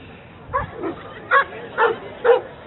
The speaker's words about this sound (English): Dogs are all excited.